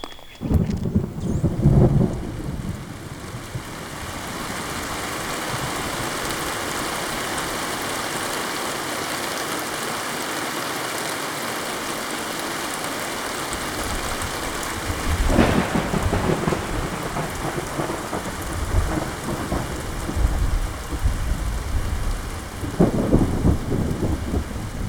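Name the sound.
rain shower with thunder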